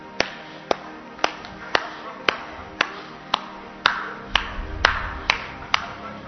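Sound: audience clapping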